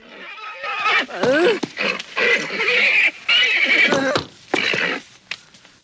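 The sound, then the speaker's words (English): An agitated horse rears up, whinnying and snorting loudly, with several harsh, shrill bursts crowding one another over about six seconds, and no voices. “The horse becomes agitated and rears up.”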